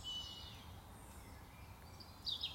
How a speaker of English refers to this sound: That might be where you are right now. It could be my voice or the birds in the background.